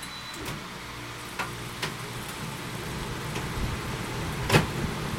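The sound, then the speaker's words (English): A car air conditioner runs with a steady, moderate whooshing hum, broken by a few faint clicks and one sharper tick near the end. No one speaks. “Okay, turn on the air conditioner.”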